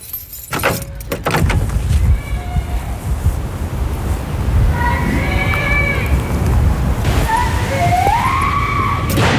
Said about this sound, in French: Il y a des gens qui crient.